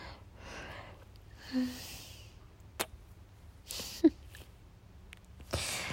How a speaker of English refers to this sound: I love hearing your little gasps. It's so cute.